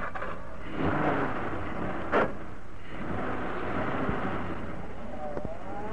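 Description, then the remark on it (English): A car engine, started with an ignition key after two men climb in, catches with a brief burst, then settles into a steady, loud rumble that swells slightly as the vehicle pulls away, with no voices. “the spare wheel was bolted on, the tools were replaced in the boot, and the two men climbed into the car. I hope that ignition key of yours works, Parker.”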